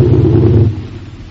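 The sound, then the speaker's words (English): Aircraft engines drone steadily with a loud, low rumbling hum and layered tonal bands, easing slightly partway through but continuing without a break. No voices are heard. “Where I have to surrender myself to the noise of the engines for the moment.”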